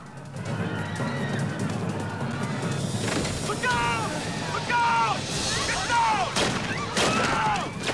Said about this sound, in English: Running for the escalator, Piper pumps Schiller with bullets.